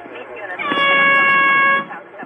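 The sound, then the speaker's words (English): A single loud, sustained air horn blast lasting about a second, with a harsh, brassy tone, played through a slit window screen and a door opened 1 meter, cutting over a noisy background before abruptly stopping. “So you're slicing my window screen to get an air horn through it, and you're opening my door 1 meter so you can blast and play that horn again so people get a sense of what we're talking about.”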